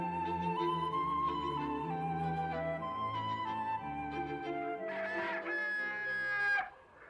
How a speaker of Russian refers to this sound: Скоро добрались и до птичьего двора. Батюшки, что тут был за шум и гам. Две семьи дрались из-за одной угриной головки, и в конце концов она досталась кошке.